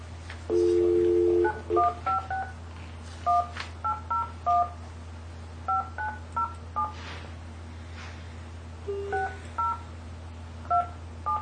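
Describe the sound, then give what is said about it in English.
A dial tone gives way to a quick series of telephone keypad beeps, tapped out in short bursts over a steady low hum, as a number is dialed on speakerphone at a meeting in Taney County, Missouri. “And then as you guys review that, I will make the phone call to call them.”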